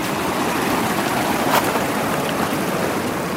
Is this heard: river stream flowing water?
yes